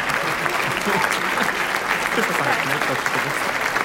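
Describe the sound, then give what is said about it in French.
Loud, sustained standing-ovation applause from a large, enthusiastic audience at the end of a film screening, for the director presenting the film, a dense unbroken roar of clapping with faint cheering mixed in, filling the whole stretch without a pause. “Le clap, ça peut être en salle à la fin d'une projection quand un public ultra enthousiaste applaudit à tout rompre un ou une artiste en standing ovation pour un combo main-jambe.”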